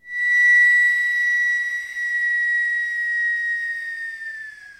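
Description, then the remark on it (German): A steady, high-pitched whistle of air escaping from a balloon through a valve, in a lesson demonstrating how heating thermostats work, holding one bright tone with faint hiss before slowly sagging in pitch and fading slightly toward the end as the air stops flowing. “Es konnte keine Luft mehr durch das Ventil strömen, aber es ist noch ein bisschen Luft in dem Luftballon drin.”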